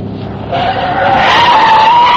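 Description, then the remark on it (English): A loud, sustained tire squeal as a car skids hard through a turn onto a frontage road leading to residential homes, the high screech rising and holding steady for about two seconds over a rumbling engine, with no talking. “I made a hard turn onto the frontage road leading to the residential track homes. The pickup made the turn, but the big car missed it.”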